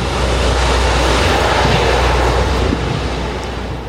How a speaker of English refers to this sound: And C-130s are loud. You hear a lot of spinning, kind of engine noises. And once everybody's loaded in, they close up the back and the plane starts to take off.